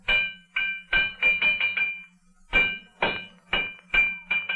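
A hammer pounds metal in two quick runs of sharp, ringing blows, about a dozen strikes in all, with a brief pause between the runs. A low steady hum sits underneath.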